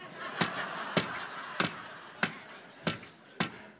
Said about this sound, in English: Okay, now you, I'm going to hold it, but don't hit my fingers. You hammer like your dad.